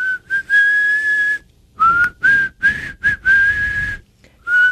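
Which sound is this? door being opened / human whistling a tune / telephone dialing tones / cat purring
human whistling a tune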